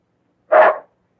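A small dog named Mutt gives a single short, sharp bark, clear, with silence before and after it, as it leaps into a man's arms.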